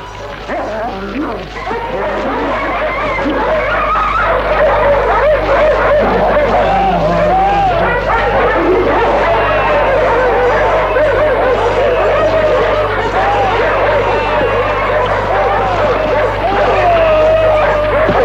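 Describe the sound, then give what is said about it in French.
Dogs bark and snarl in a continuous, chaotic scuffle over the remains of corpses in a ruined city after a battle and bombardment, loud, over a dense rumbling background with occasional crashing noises throughout. “Des cadavres ont attiré des chiens, des chats, des rats qui se disputent les restes.”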